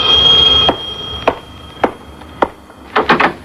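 A doorbell at an office rings with a bright, steady high tone that cuts off after under a second, followed by a handful of sharp, irregularly spaced knocks ending in a quick cluster.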